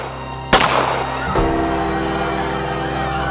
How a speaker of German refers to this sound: Diese Schüsse auf dem Petersplatz schockieren die Welt. Die Kugeln gelten Papst Johannes Paul II. Zwei Schüsse, aber drei Patronenhülsen.